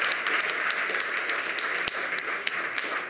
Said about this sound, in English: Quick round of applause for all of the presenters in the first half of the Lightning Talks today.